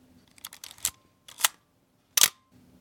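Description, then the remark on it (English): A real mechanical camera shutter, fired by a spring cocked by a hand winder, fires several times, each crisp metallic click-clack preceded by a brief winding rattle, fairly loud against a quiet background with no talking. “Give me a real mechanical sound of a real mechanical shutter, one that's fired by a real spring that's cocked by a real hand winder.”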